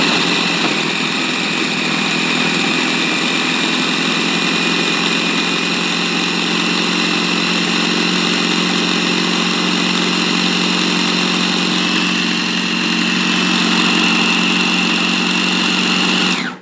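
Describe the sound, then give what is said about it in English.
A food processor whirs steadily as it mixes pastry dough so that it forms into a ball, a loud, continuous motor drone with a bright whine, running unbroken for about sixteen seconds before cutting off abruptly. “So I've got everything has gone into the food processor. I'm just going to buzz it up and it'll form into a ball.”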